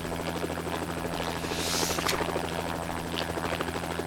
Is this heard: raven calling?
no